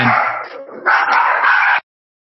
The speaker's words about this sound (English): And we interrupt this program with a barking dog. Yeah, my pups. Sorry.